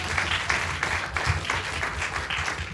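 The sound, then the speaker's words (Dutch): A crowd in a hall breaks into steady applause on a countdown, with dense overlapping claps at a fairly loud, even level for a few seconds and no one speaking over it. “Applaus.”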